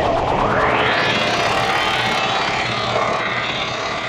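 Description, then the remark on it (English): A dense, roaring sound from a pickup hooked to a ladder on a bridge, patched into an effect pedal with delay and pitch modulation: its pitch sweeps steeply upward in the first second, then holds as a thick, smeared wash with echoing delay repeats, loud and steady throughout, with no voices. “And now distort the sound further by modulating the pitch effect.”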